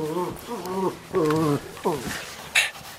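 A dog whimpers in a few high, wavering whines, each drawn out and trembling in pitch, followed by a short breathy huff at the end. Fairly loud, with no talking.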